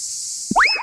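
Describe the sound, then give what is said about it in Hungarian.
A cicada's steady high-pitched buzz runs throughout, cut by a short springy rising chirp with bright overtones near the end. No voices are heard. “A műsorszám kabóca megjelenítést tartalmazott.”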